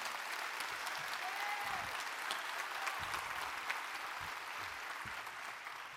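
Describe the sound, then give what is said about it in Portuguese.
A crowd applauds steadily for several seconds to thank the group Verdadeira Alegria, a dense wash of clapping hands that stays fairly even throughout, with no voices standing out above it. “Aos irmãos da verdadeira alegria, dá uma salva de palmas para eles, né?”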